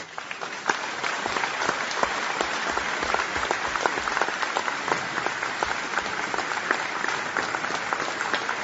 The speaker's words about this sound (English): Yes, the large crowd rose to its feet. The applause went on.